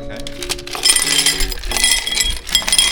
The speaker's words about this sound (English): Okay, so what you do is you get a rocks glass and you fill it with ice.